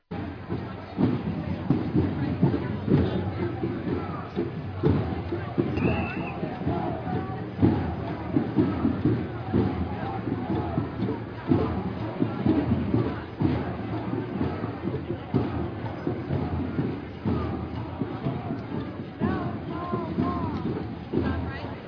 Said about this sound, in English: I want to let people know that the sounds we heard in the behind the last little talk were helicopters. Now we're marching down to Union Square in San Francisco.